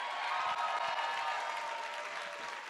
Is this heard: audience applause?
yes